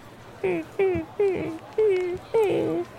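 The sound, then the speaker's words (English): A worn pair of boots squeaks with each step, five high, whining squeals in a steady rhythm that sound like a hurt dog whimpering, fairly loud, with no talking. “Oh yeah, it's like a hurt dog. Yeah, and it happens the whole time you wear them.”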